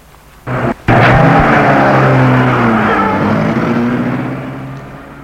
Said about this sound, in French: Elle met la voiture en route.